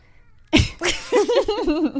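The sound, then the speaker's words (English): After a moment of quiet, a cat named CK lets out a loud meow: a sharp, breathy start that stretches into a wavering, drawn-out cry with no one talking. “That was the meow that you just heard.”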